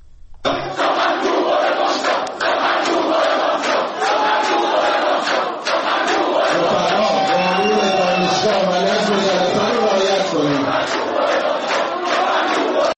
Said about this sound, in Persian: شعارهای مختلفی دانشجویان سر دادن و به نوعی مانع از سخنرانی آقای بهادری جهرمی شدن. حجم شعارها رو در این صدایی که الان میتونید بشنوید میتونید شما را هم در جریان قرار بده.